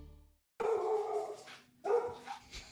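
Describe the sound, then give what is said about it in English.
A dog barks twice, loud, each bark a drawn-out, harmonic woof with a short pause between them, and no voices around it. “It's a dog.”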